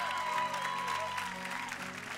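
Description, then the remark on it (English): A steady wash of audience applause for the speaker's wife, many hands clapping at once in a dense, even patter that holds at a fairly loud level for a couple of seconds. “So give my wife a big old clap.”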